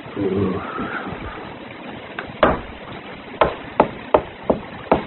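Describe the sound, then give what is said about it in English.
Knocking on a door: after a quiet murmur, a handful of sharp wooden raps, one louder thump first, then a steadier run of five or six firm knocks, unevenly spaced. “Ah, then you knock.”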